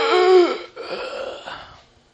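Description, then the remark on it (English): A voice imitates a man's dying last gasp for air after a pickup truck rolled over him: a strained, wheezing vocal intake with a rising pitch, then a long raspy, breathy exhale trailing off into quiet, fairly loud. “And they heard him take his last gasp of air.”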